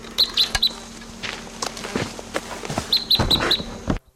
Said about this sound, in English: Those birds took off.